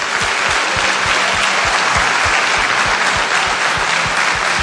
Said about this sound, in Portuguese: Se você crê nisso, dê uma salva de palmas a Jesus.